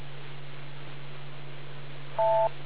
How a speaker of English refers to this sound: We've only got a single beep tonight, the way that we had to reset the controller to get you back on the air. We're not in net mode.